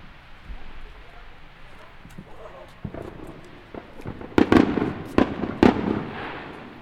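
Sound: firework rockets exploding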